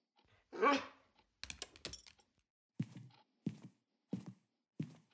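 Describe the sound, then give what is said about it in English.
A dog lets out one loud, drawn-out bark, then a brief clatter, followed by four short, evenly spaced woofs, with no talking. “Did he go out, dog?”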